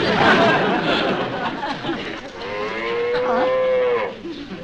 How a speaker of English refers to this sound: Get that cow out of here. Will you listen already? This is Ginger.